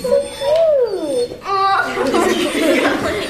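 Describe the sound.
A golden Labrador named Liberty, a dog that helps children learn to read, gives a long, sliding whine amid a group of children laughing and chattering, their voices overlapping loudly throughout.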